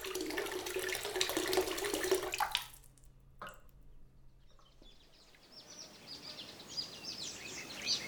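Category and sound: nature, river water flowing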